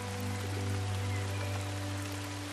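Steady, dense rain patters and hisses continuously as it falls through the evergreen canopy of high forest trees, with a faint low hum running underneath and no voices.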